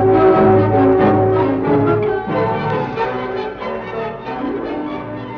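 A gong rings out loudly, its deep metallic tone shimmering with layered overtones and sustaining for several seconds as it slowly fades. No voices are heard.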